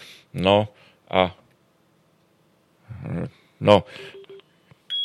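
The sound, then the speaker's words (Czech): Short electronic telephone dialing tones beep briefly near the end, following a few bursts of voice. The tones are clear but quick and fairly quiet. “A máme tady telefon, takže se...”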